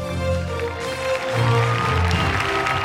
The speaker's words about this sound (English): A crowd of people is welcoming them. The crowd is clapping and cheering.